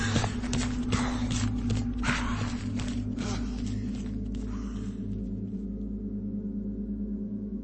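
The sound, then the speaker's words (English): Hurried footsteps crunch through snow in a quick, steady rhythm as someone runs back through wind and snow towards a boat, then fade away midway, leaving a low, constant droning rumble that runs underneath throughout. “Brodor turned and ran back through the wind and snow towards the boat.”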